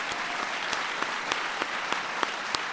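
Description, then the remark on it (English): Steady audience applause from a crowd for awardees, a dense wash of clapping with a few sharper claps standing out, continuing evenly throughout at moderate loudness. “Let's give a big round of applause to all our awardees.”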